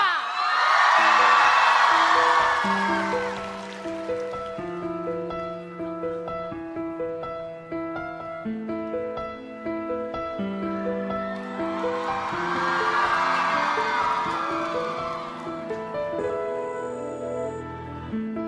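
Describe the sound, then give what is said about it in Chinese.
A large audience at a pop music awards show screams and cheers in two loud surges, one at the start and another near the end, as a singer is welcomed to the stage, while music with steady sustained tones plays underneath. “准备好你们的尖叫声吧，下面就把舞台交给我们的亚洲情歌王子”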